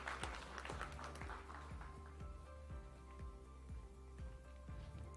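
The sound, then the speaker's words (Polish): A crowd applauds the team from the First High School named after the UN (I LO im. ONZ) in Biłgoraj, the clapping dense at first and then thinning out over a few seconds, fairly faint with a steady low hum underneath and no one speaking. “Wielkie brawa.”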